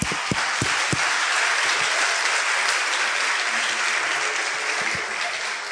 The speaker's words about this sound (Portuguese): Então, salve de palmas, salve.